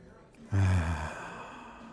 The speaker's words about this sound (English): Focus on the sound of my breathing and all these sounds around you that you're used to.